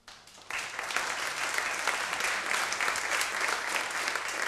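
Sustained applause from an audience at a DebConf session on the Debian new member process: dense, steady clapping that starts abruptly after a brief quiet moment and holds at an even, loud level throughout, with no voices standing out.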